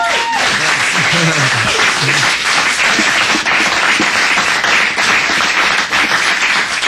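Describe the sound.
Loud, steady audience applause for a musician at the River Music Hall fills the whole stretch, a dense wash of many hands clapping at once, with a few faint voices mixed in underneath.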